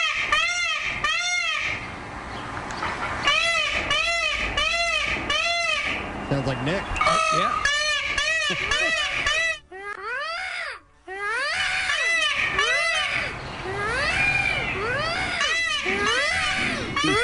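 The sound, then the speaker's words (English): A bird's mating call played from a phone: a loud, continuous run of wailing, rising-and-falling cries repeated in quick succession, with a brief spoken comment partway through. “Here we go, the mating call.”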